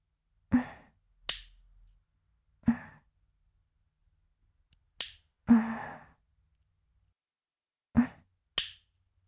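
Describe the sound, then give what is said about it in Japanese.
Nail clippers snip fingernails on the right side, starting with the thumb, three or four crisp, sharp clicks spaced a few seconds apart, each paired with soft, breathy sighs, with whispering at the listener's ear. “こっちもさっきみたいに耳元でささやきながら爪切りしてあげる。”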